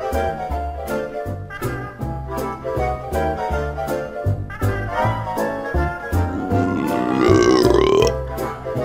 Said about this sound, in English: Wow. That was like a syrup burp.